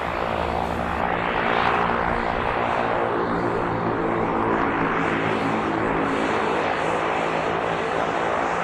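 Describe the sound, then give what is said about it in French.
A propeller-driven MQ-9 Reaper drone, a US-made remotely piloted aircraft of 4 tonnes with a 20-metre wingspan, drones steadily and loudly throughout, a continuous buzzing roar with a layered, tonal hum and no voices. “Un drone comme le Reaper, c'est un système, un équipage, une station au sol, une liaison satellite, un avion piloté à distance de 4 tonnes et 20 mètres d'envergure, en portant sous son nez une puissante caméra gyrostabilisée,”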